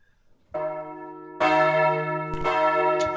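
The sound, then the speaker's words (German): Church bells ring out with rich, sustained harmonic tones, a first strike at about half a second and a louder second bell joining, overlapping and resonating continuously without any voices. “Da wir uns hier nicht an der Tür mit Handschlag verabschieden können, wie nach dem Gottesdienst, freue ich mich, wenn Sie mir nach den Glocken einen kurzen Gruß aufs Band sprechen.”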